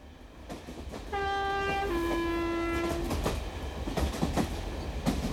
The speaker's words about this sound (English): A train journey.